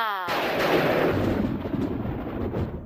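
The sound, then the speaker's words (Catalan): A witch's thunder-and-lightning spell: a brief high, warbling magical zap gives way to a loud, crackling thunder rumble that swells and then slowly fades over a few seconds. “Ara, és que l'encanteri de llamps i trons el vaig comprar de rebaixes i no sempre funciona bé.”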